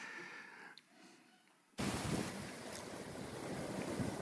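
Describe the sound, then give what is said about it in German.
Ocean waves wash onto a sandy beach with practically no people on it, with a steady, broad roar that starts abruptly after a quiet, hissy lead-in and stays loud and continuous throughout. “In diesen Wellen.”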